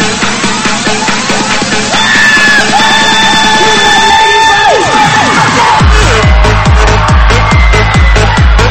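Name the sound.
audience screaming and cheering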